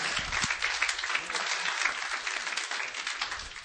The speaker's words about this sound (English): Come on, clap your hands unto God.